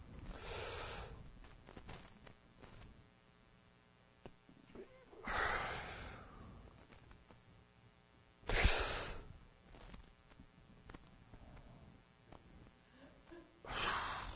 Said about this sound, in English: See, what are you doing? I'm practicing deep breathing. So I don't kill you. It's called anger management.